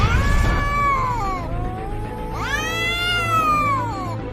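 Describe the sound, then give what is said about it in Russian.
A performer playing a cat in a filmed scene, demanding its milk, imitates a cat with two drawn-out, whiny meows: the first slides downward in pitch, the second rises and then falls. There is a short gap between them and a low background hum underneath. “И так подойти, мяу-мяу, и сказать ему ближе.”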